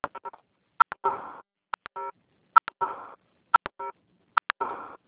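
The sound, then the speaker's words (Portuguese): Phone keypad tones from someone typing on a cellphone during a group call, beeping repeatedly in a steady rhythm, each short electronic tone preceded by a pair of sharp clicks, moderately loud with no talking. “Gente, tem alguém digitando, não dá pra ouvir.”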